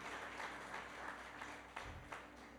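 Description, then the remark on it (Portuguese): A church audience claps together in sustained, dense applause for a few seconds, applauding the word of God, a steady wash of many hands with no voices standing out. “E toda a igreja diga, se você pode, coloque a sua Bíblia no colo e aplauda bem forte a palavra de Deus.”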